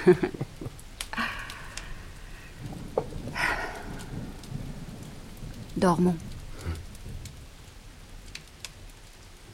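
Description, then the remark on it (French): Heavy rain pours in a steady, dense hiss throughout, with a few louder bursts and a low rumble underneath. A voice speaks briefly over the downpour. “La pluie faisait rage.”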